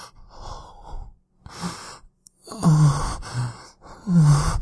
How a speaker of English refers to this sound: And you can hear my moans and my breathing getting louder, more intense, more desperate.